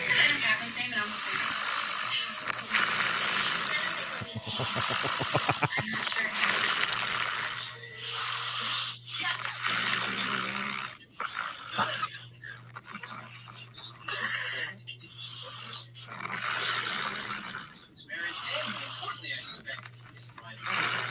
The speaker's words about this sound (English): But I want to hear this audio of your wife snoring.